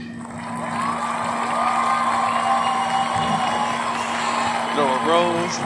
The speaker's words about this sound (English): we get, can we please get the round of applause one more time?